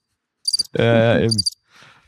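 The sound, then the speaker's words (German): A digital cricket chirping sound effect: short, bright, high-pitched chirp bursts around a louder buzzy synthetic tone lasting under a second, then a faint hiss fading out. No one speaks. “Diese das Crickets, digitale Zirbis.”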